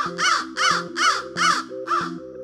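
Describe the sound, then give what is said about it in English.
A crow caws five times in a steady, evenly spaced series, each call loud and harsh, with no voices present. “And then, oh, look at those crows.”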